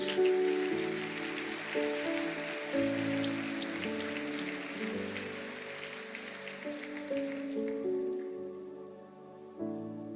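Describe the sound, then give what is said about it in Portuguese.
A church audience claps steadily to the Lord Jesus in a dense, sustained wash over held keyboard chords, the applause thinning out and fading after about eight seconds while the music continues. “Se você recebe isso, diga amém e aplauda ao Senhor Jesus.”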